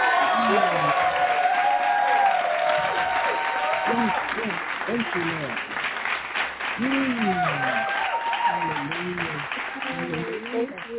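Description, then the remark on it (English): An audience gives a hand clap praise, clapping steadily for about eleven seconds to welcome a woman coming to give the evening Bible lesson, the sustained applause mixed with overlapping shouts and joyful calls from many voices, while one person speaks briefly over the din. “Welcome her with a hand clap praise.”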